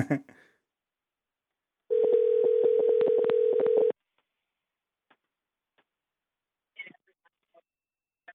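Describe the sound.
A single loud, steady phone ringing tone lasts about two seconds after a brief bit of voice, followed by near silence with a few faint clicks and a short murmur of speech.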